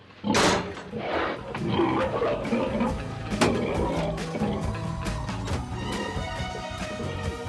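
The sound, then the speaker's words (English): Hogs feeding at metal hog feeders, pushing their snouts into the metal flaps and letting them slap down, with the flaps repeatedly slapping and clanging shut in an irregular clatter over a steady backdrop of grunting and shuffling animal noise. “The hogs wallowed in their beloved mud, of course, but what they really loved to do was insert their hefty snouts into the metal flap of the hog feeders, chow down and move on, letting the metal flap slap down and make a huge racket.”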